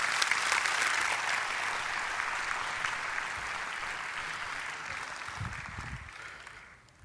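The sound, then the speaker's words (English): A church audience breaks into sustained applause for a group of people, many hands clapping in a dense, steady wash that holds strong for several seconds before tapering off at the end. “Give these guys a big hand clap.”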